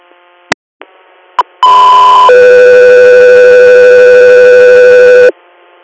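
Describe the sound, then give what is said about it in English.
A two-tone dispatch paging alert for the Scout 3 Air crew: after a few short clicks, a steady high tone holds briefly, then drops to a lower tone that sounds for several seconds, loud and clear over faint radio hiss. “Scout 3 Air, stand by for tones.”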